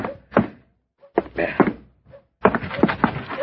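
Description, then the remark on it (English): A door being opened: a series of solid thunks and rattling clunks from the latch and frame, coming in three short bursts separated by brief pauses. “I can still walk to my own door.”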